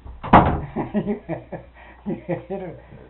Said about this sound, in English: It come in that upstairs window just like this, just as strong as it could be. That, you're going to get in the house, close your door.